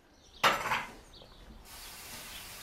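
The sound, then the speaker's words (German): A single bright clatter of crockery, like cups and mugs knocking together, rings out and fades quickly, followed by a quiet stretch of soft kitchen background noise, as a woman makes coffee and tea in the kitchen of an old brick house in a village in Mecklenburg-Vorpommern, Germany. “kocht in der Küche ihres alten Backsteinhauses Kaffee und Tee, trägt die Becher hinaus auf die Terrasse.”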